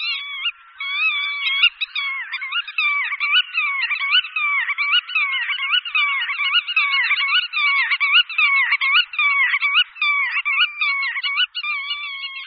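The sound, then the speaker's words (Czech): A black-tailed godwit, a large, pigeon-sized wader with long legs, neck and bill, calls over and over in a steady, rhythmic series of loud, nasal, mid-to-high pitched notes that continue without pause and with no voices. “Břehouš černoocasí je statný bahňák, který dosahuje velikosti asi holuba.”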